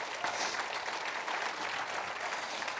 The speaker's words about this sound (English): If you believe that, give God a hand clap of praise.